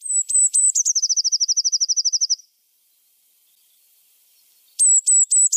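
A Eurasian blue tit sings alone: a few thin, high notes followed by a rapid, even trill lasting about a second and a half, then silence before another burst of high, sharp notes.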